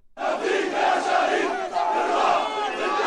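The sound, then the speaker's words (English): A large crowd of protesters shouts and chants together at the funeral of a Palestinian man killed by an Israeli private security guard in Jerusalem, a loud, continuous roar of many raised voices, with no single speaker standing out, sustained for about three seconds. “Protesters shouted during the funeral of a Palestinian man who was killed by an Israeli private security guard in Jerusalem.”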